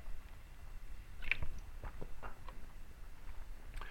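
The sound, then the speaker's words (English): Quiet sounds of someone drinking water: a few wet sips and swallows with soft mouth clicks, spread unevenly over a few seconds, with no talking. “I got to have some water.”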